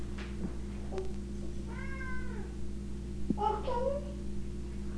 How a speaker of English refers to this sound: No, don't give her food. She's asking for food. That's what keeps her meowing. No, I'm not going to give her food.